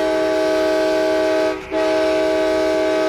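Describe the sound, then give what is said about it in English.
A loud, melodic Amtrak chime train horn sounds a sustained chord of several blended notes (D sharp, F sharp, G sharp, B, D sharp), holding steady for about three seconds except for a brief dip near the middle. “Amtrak went a step further and had a special horn created to make an unmistakably melodic train sound.”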